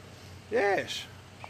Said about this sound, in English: Well, here is the cat. There we go.